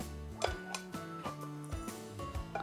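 Two eggs being flipped over with a spatula in a frying pan on a gas stove: a handful of light, irregular spatula clicks and taps against the pan, fairly quiet, with a soft steady tonal hum underneath and no talking.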